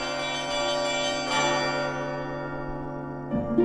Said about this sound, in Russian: О, эти рождественские хрустальные колокола! И пушистый снежок, и совсем не холодно, и все прихожане задирают голову, чтобы послушать мелодии Рождества, которые можно сыграть на наших колоколах.